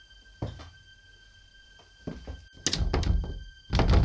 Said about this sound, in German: Verdammt, die Tür lässt sich nicht mehr öffnen.